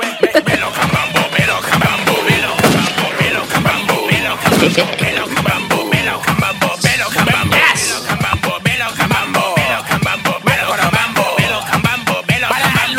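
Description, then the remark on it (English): A celebratory gunfire sound effect: a long, dense burst of rapid gunfire, shots cracking nonstop for several seconds, loud, with booming thuds mixed in. “Celebratory gunfire for that.”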